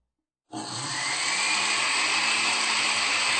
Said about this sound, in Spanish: No podemos agregarle mucha agua porque esta crema que vamos a preparar necesitamos que quede espesa. 4 cucharaditas de agua nomás. Licuamos un poco.